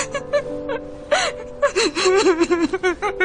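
A woman cries and sobs up close, with sharp gasping breaths followed by a run of wavering, whimpering sobs that rise and fall unevenly, no words spoken.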